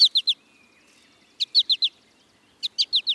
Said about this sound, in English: American goldfinch males sing a bright, bubbly song and nearly always call in flight with a sweet four-syllable.